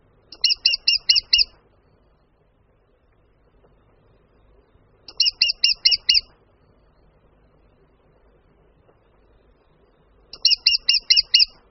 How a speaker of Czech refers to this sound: Kromě bubnování se strakapout malý ozývá vysokým, opakovaným ki-ki-ki, které může trochu připomínat zpomalený a vzdálený hlas poštolky či krutihlava.